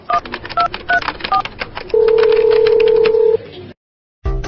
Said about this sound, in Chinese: 姐姐电话来啦。